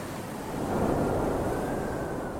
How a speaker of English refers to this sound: So let's cue sea sound effects.